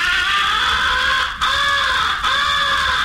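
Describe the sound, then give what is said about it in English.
Harsh, raspy caws blown on a crow call, imitating a crow locating an owl or a crow in distress. Three long, loud calls run almost together with brief breaks, steady, with no talking. “You are imitating a crow locating an owl or in distress and plenty peeved.”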